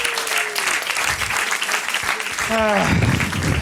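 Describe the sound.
Steady audience applause, a dense crackle of many hands clapping throughout, with a brief tonal whistle or voice rising through it near the end.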